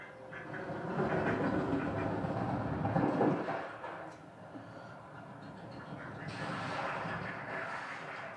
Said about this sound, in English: So a lot of these have really interesting like left to right or right to left spatialization. So listen to them zoom around as they fly by the mics. A duck coming in.